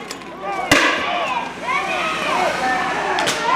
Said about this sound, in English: A videographer with the protesters shared footage of state troopers firing smoke canisters, tear gas, and rubber bullets when the crowd refused to leave.